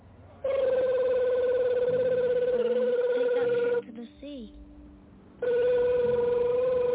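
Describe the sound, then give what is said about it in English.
A telephone lying under someone rings loudly in a long electronic burst, pauses briefly while a voice is heard, then starts ringing again. “Hey man, you gonna get your phone, man?”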